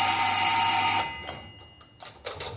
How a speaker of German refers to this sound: Dann nehme ich mal die nächste Nummer. Ah, das ist die kleine Klingel fürs Schlafzimmer, nicht? Zum Wecken.